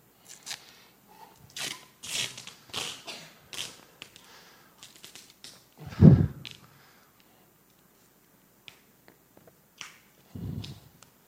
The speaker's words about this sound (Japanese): Okay, I've taken off a piece. で、ガムテープをそうですね、20-30cmぐらい切りました今。